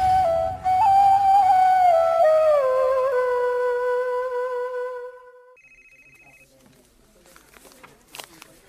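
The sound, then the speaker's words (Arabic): A phone notification for a newly received video rings out: a loud, sustained electronic melody of sliding tones, then a brief, rapid beeping chirp, after which it falls nearly quiet. “وعيال وصلني فيديو توه على التليفون يخص شيء من فعالياتكم.”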